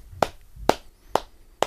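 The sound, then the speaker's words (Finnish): A person pats down the outer side of their own arm in a self-tapping routine: four firm, evenly spaced taps, a steady rhythm of about two per second, each a short, dull slap with no talking. “Ja sitten lähdetään taputtelemaan käden ulkosyrjää alas.”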